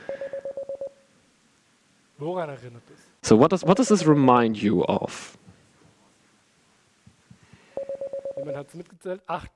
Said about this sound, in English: So it's 8 beeps in sequence. 8 short signals.